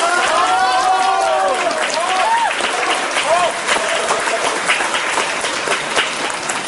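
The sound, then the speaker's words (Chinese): An audience bursts into steady, loud applause after a stage performer asks for it, lasting the whole stretch, dense clapping mixed with scattered cheers and voices calling out over it. “小将一撅，站在当街，谁给我鼓掌，我管谁叫爹。”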